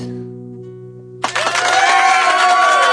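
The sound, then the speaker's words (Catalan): A sustained musical chord fades out, then an audience suddenly breaks into loud, steady applause mixed with cheering and whistles that carries on to the end. “No, no, no, pareu d'aplaudir, pareu d'aplaudir, si us plau.”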